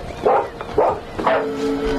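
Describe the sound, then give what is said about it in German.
A dog barks loudly while jumping up again and again at a window, three sharp barks about half a second apart, the last one trailing into a drawn-out, whining tone. “bellte laut und sprang immer wieder am Fenster hoch.”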